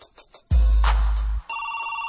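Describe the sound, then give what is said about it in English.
A telephone rings with a steady, electronic trilling tone that starts abruptly and holds to the end, fairly loud, just after a deep, booming low thud. “The phone is ringing, I think I better get it.”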